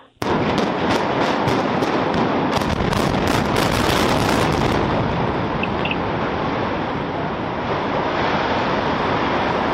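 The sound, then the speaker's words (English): A rapid series of sharp blasts crackles over a dense, roaring rumble as a power plant in Bridgeport is imploded at 4 in the morning, then the bursts give way to a sustained wash of heavy, continuous noise, followed by some woos. “This is the power plant in Bridgeport being imploded at 4 in the morning over the weekend.”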